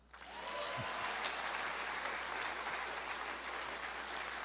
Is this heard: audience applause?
yes